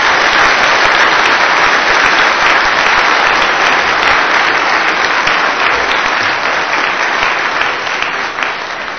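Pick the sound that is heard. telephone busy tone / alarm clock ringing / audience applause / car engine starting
audience applause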